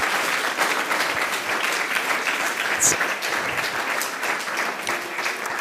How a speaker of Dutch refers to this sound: Mag ik ook even een groot applaus